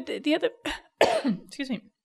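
Several short, harsh bursts in quick succession, like coughing or throat clearing, loud and uneven with brief gaps between them.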